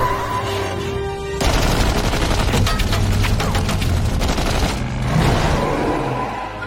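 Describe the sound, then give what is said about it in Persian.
A loud volley of live-round gunfire: rapid shots crackle in dense, overlapping bursts for several seconds, pausing briefly before another burst, with no voices. “برو دیگه مشقی نزنید، گلوله چنگی بزنید.”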